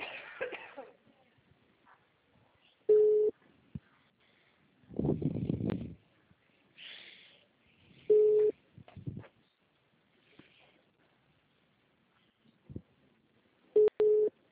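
telephone call tones

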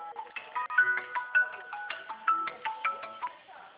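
telephone ringing

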